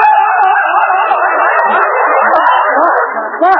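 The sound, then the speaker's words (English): A man, an announcer put in a trance and told he is Tarzan in the jungles of Africa, lets out a loud, sustained Tarzan-style jungle yell, his voice warbling and yodeling up and down in pitch for several seconds without a break. “What are you yelling about?”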